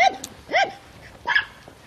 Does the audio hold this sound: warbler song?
no